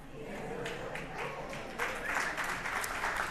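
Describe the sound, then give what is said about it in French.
An audience applauds steadily, a dense wash of many hands clapping that swells slightly partway through, with a faint murmur of voices underneath. “Applaudissez pas, là, on l'avait pas planifié qu'ils rentrent en dedans, nous autres.”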